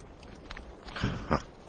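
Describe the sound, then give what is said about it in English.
A voice imitates the high-pitched call of a thylacine (Tasmanian tiger), two quick sharp yips like a fox terrier dog in close succession, moderately loud over a faint background hiss. “Out of nowhere came this mysterious yip-yip, like a fox terrier dog, a high-pitched yip-yip, and almost immediately an echo, like that.”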